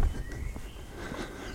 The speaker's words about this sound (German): Ich bin jetzt zunächst am Ende des Geländes angekommen. Vor mir liegt nur Grün. Viele Vögel, die kann man gut hören.